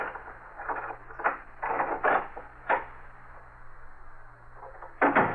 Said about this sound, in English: Margot Lane is unlocking the door to her apartment.